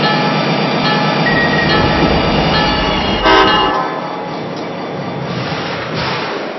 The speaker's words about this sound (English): Your attention, please. Now arriving from Los Angeles on track number 2, Amtrak train number 562, the Pacific Surfliner.